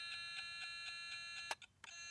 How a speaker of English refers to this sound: This buzzer only works for one reason.